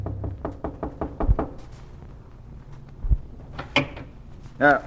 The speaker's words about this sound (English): She tied it into a knot over a walking cane and came down and knocked on the door of her employer's room.